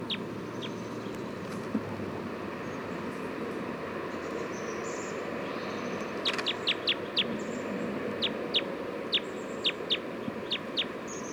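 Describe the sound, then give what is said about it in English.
A wild bird, recorded as bird 311 at 11:51, gives a series of short, high-pitched chirps, clustered in quick bursts with brief pauses, over a steady background rumble; no one speaks. “So recording, it's 11:51 now. Recording bird 311 again.”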